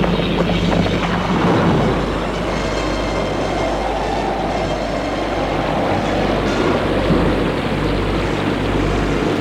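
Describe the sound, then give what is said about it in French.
Heavy rain pours down in a loud, steady wash, with a deep rumbling roar of thunder underneath, filling the whole stretch without pause and with no voices. “Ils sont trempés sous l'orage.”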